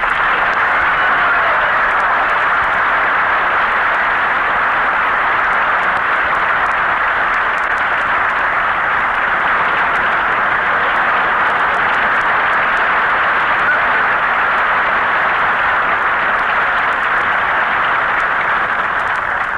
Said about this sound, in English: Hey, Bing, he got more applause than we did.